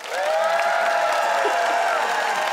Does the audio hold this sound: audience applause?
yes